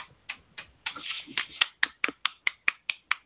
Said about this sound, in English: That's me clapping to myself and finding conviction here because I started that process for myself and I'm literally right in the throes of it.